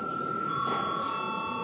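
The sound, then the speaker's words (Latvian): A steady electric bell rings continuously in a parliament chamber before a vote, a sustained bright tone at even loudness with no pauses, heard alone without any talking. “Lūdzu zvanu.”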